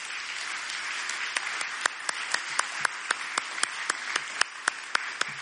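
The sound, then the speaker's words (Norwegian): A crowd applauds in a steady, dense wash of clapping, and after a moment sharp, evenly spaced claps rise out of it into a brisk rhythmic beat. No one speaks. “Låt oss ge dem en ordentlig klapp.”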